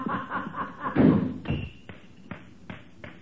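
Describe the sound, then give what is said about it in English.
In a scene from the McGees radio show, a man slams a door: a heavy, booming slam lands after a brief stretch of muffled voices, followed by four or five sharp, evenly spaced knocks or footfalls that fade out. “Did you hear him slam that door?”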